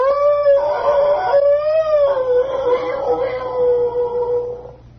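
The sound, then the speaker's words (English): A single long timber wolf howl, loud, with a steady wavering pitch that rises and falls gently before trailing off after about five seconds, with no other sounds around it. “I'll award you a brass fig degree with bronze oak leaf palm if you can tell me the name of the radio show that used to open up with the sound of a timber wolf.”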